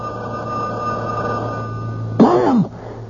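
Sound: telephone bell ringing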